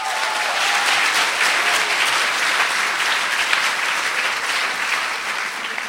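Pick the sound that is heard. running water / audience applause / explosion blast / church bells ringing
audience applause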